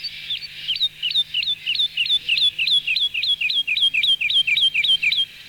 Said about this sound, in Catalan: Aquest és el tema aquí a Catalunya Ràdio. Els sorolls de les aus i la fonoteca zoològica del Museu de Zoologia de Barcelona.